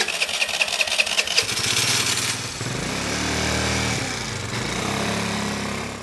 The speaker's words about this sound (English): It's been a 40-minute motorbike ride across town, and we're now at the Longhua Hospital.